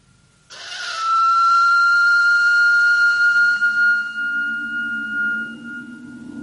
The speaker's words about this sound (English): Now, this thing is quite obviously a whistle. Not unlike a modern dog whistle, indeed. Who is this that is coming? Best way to find out is evidently to whistle for him. Still in working order? That's remarkable.